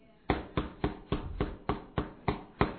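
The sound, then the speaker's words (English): Steady knocking on a door, eight firm, evenly spaced raps over a few seconds, each a sharp thud with a brief decay, with no voices. “The door. Somebody's at the door.”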